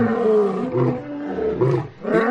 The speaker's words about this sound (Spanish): Añadió algunos rugidos de león.